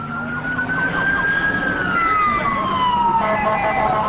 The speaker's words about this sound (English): Late Thursday, sirens wailed as emergency officials tried to care for the wounded after a bomb struck a mostly Shiite neighborhood in central Baghdad.